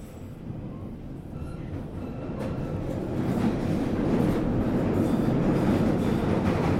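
A Northern Line underground train, terminating at Taibai, rumbles along the track, a dense, continuous roar with faint rhythmic clatter that grows steadily louder over several seconds.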